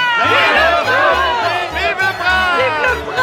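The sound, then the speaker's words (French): A dense crowd cheers and chatters loudly for a young prince and his mother, many overlapping voices rising and falling, with a steady rhythmic low thumping like drums underneath. “La foule ovationnait le jeune prince et sa mère, lorsqu'une pluie de flèches s'abattit sur la ville.”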